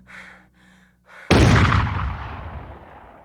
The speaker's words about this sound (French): Un dernier tir qui achève Kitty Menendez.